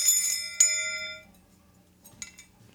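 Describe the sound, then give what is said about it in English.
A small hand bell, used to talk to a santo, rings twice in quick succession, its bright metallic tone lingering and fading over about a second, followed by faint softer clinks. “And when you want to talk to the santo, you take the bell and you talk to the santo.”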